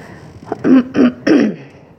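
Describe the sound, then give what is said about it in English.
A person who is getting over a cough coughs and clears their throat three times in quick succession, fairly loud, each burst short and rough, with no talking around it. “So I will say beforehand, for the sake of the recording as well, that I have cough.”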